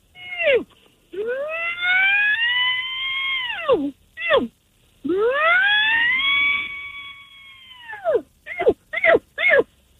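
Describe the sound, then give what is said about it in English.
A person imitates a bull elk over the phone, opening with a short bleat, then two long, rising, whistling bugle calls, followed by a quick series of sharp, high chirps. The calls are loud and shrill, with no speech. “All right, so I'll start out with the bleat, and then I'll work up into a bugle here.”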